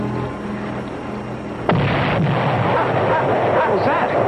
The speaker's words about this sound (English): I hate to say it, but I think the water heater blew up. The water heater?